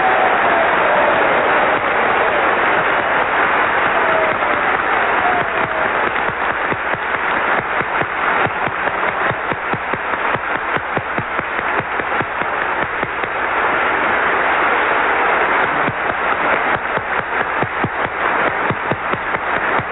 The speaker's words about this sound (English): But tonight, as I was thinking of the toast to propose, before doing so, I would like all of us to join, I think, in a round of applause for the marvelous White House staff and all these service organizations that have put this dinner on.